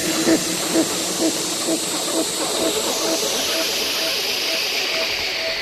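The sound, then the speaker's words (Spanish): A long, steady hiss from a voice imitating a snake, held without a break for several seconds, bright and airy, with faint murmuring underneath. “Serpientes.”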